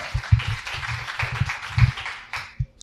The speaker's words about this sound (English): Please come through a round of applause.